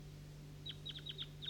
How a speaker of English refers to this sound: These are the wild birds up in the tree. And I hear some other wild birds way in the distance coming from the north down the hollow here. Two or three wild birds calling from the top of the maple tree.